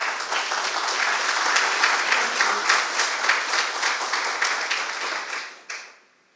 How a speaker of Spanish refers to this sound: Esto merece un aplauso.